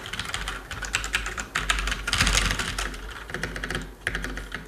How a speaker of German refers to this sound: Ein schönes Tippgefühl, so wie ich das erwartet habe.